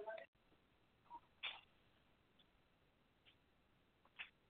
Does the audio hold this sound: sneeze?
yes